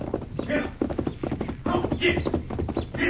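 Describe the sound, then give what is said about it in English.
Rapid, rhythmic hoofbeats pound steadily and fairly loud as a horse gallops fast toward the listener, with a busy, muffled background throughout. “Me here, horse. Coming fast.”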